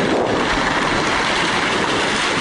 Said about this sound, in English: They looked up, and their video camera recorded what happened next. A giant sequoia, actually two giant sequoias, fused at the base, came crashing to the ground. A tree fell in the forest, and it definitely made a sound.